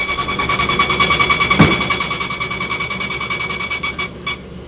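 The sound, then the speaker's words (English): A mail-opening machine runs with a harsh, high-pitched mechanical whine and a rapid, steady pulsing rattle, fairly loud throughout, with a brief sharp crack partway through and no one talking. “All the mail gets opened by this machine that makes a really annoying noise.”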